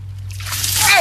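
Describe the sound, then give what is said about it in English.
A bucket of ice water splashes down over a person for the ALS Ice Bucket Challenge, a quick rush that swells in loudness over about a second, over a faint steady low hum. “Participants are challenged by their friends to dump a bucket of icy water over their heads.”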